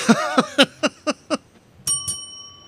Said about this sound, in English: You can ring the bell on that one.